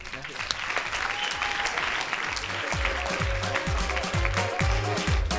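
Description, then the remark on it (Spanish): A crowd applauds steadily for the whole five seconds, a dense, even patter of many hands clapping at a fairly loud level, with a low rhythmic thumping running underneath. “Un aplauso.”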